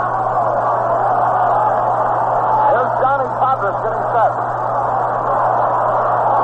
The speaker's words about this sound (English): The crowd trying to stir a rally.